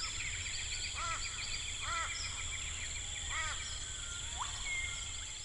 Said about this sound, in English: Yeah, so there are three basic categories. The first one is biophony. That's all of the wild animal sounds. So an example of biophony would be this chorus of birds.